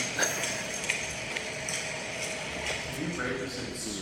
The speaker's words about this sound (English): It's just the reverberant tones, especially that I noticed from like the footsteps, just brought like swampy and also like jail-y type. It was like, I couldn't tell if it was like outdoor or indoor